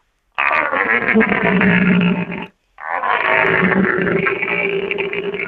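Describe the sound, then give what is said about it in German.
A man imitates the call of an old, searching stag with two long, loud, buzzing roars, deep and rasping, the first about two seconds long and the second longer after a brief pause. “Wie klingt denn ein alter Hirsch da im Vergleich? Das gleiche auch wieder der suchende Hirsch, dass man mal das hört.”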